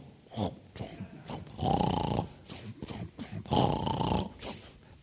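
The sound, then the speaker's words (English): A bison grunting late at night beside a camping tent in a meadow in Custer State Park: short rough huffs and snorts lead into two long, deep, rasping growl-like grunts, repeated in a steady pattern, fairly loud, with no talking. “When we woke up in the morning, the dew had been disturbed right up next to our tent and mowed down, but the bison didn't knock over the tent.”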